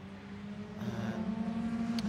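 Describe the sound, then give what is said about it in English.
A Lamborghini SC63 race car's engine hums at a low, steady pitch as the car goes slowly at Turn 3 of the track, growing gradually louder over a couple of seconds with no voices. “Lamborghini SC63 going slowly for a moment. Turn 3.”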